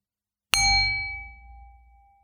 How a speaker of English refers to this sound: I'm going to ring a bell in just a few moments, and stay with the sound from that bell until you cannot hear it anymore.